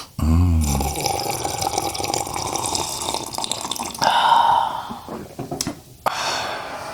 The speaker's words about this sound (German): Ach, darauf noch mal ein Schlückchen wunderbaren, frisch aufgebrühten Kaffee.